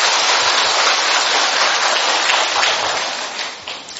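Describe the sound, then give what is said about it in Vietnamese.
A dense, steady wash of clapping from a large crowd giving a warm welcome to the attendees, loud and sustained, with individual claps blurring together before it begins to taper off near the end. “Hân hoan đón chào các bạn, một tràng pháo tay nồng nhiệt thưa các bạn.”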